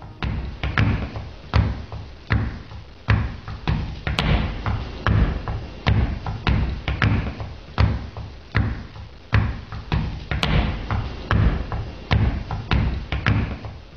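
A steady, driving body-percussion rhythm called the Mount Meigs Stomp, performed at a soundcheck in the UK: heavy low stomps mixed with sharper claps and slaps, repeating in a tight groove throughout with no voices.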